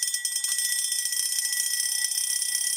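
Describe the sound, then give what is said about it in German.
A continuous metallic bell rings rapidly and steadily for the whole stretch, a bright, rattling mechanical ring from an old hand-cranked field telephone at a Westwall bunker museum in Sinz, Germany, cranked by someone outside, loud with no talking. “ob er noch gerade rausgehen würde und mal das Feldtelefon drehen würde, damit hier das Telefon mal klingelt.”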